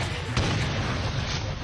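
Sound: cannon shot sound effect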